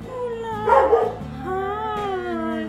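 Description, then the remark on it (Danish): Several dogs at an animal shelter in Rødovre, Denmark, howl together in overlapping, sustained wails, with a brief rough burst of barking early on; one starts and the others answer. The chorus is continuous, with no talking. “Hvis der er en, der først starter, så begynder de andre bare at svare. Det er en råbekor.”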